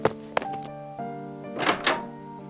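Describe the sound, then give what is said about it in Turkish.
A door thuds shut with a solid thump, followed by a few short knocking bumps and a faint lingering tonal hum, then two soft whooshing scrapes as it settles. “Az geride arka kısmı açılan bir kapı görünce hızlı bir şekilde dışarıya kaçtı.”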